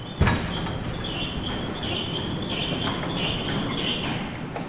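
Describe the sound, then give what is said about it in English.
A heavy fire door clunks open at a radio station's transmitter site where electricians are rewiring, followed by a steady rushing roar with faint, regularly repeating high-pitched whines. No one speaks. “Now he's about to open a fire door.”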